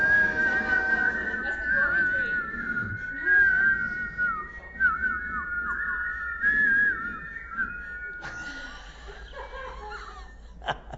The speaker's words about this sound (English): There's a whistle. Okay, whistle.